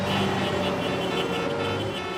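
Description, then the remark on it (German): Several car horns blare at once in a loud, continuous, overlapping chorus, sustained steadily from start to finish over a background rumble of traffic. “So hupen wir bei Hochzeiten oder wenn irgend so eine verrückte Sportmeisterschaft gewonnen wurde, WM oder EM oder so.”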